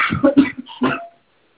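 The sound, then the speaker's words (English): A quick run of harsh coughs from a person who has just lain down, several bursts tumbling together in about a second, then silence. No one speaks. “You couldn't lay down without starting to cough quite a bit, right?”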